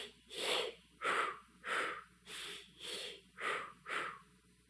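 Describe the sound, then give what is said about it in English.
Seven short, breathy exhalation-like puffs in a steady, even rhythm, moderately loud, the patterned Lamaze breathing technique used during labor, with no talking. “Well, you might recognize that as one of the Lamaze breathing techniques.”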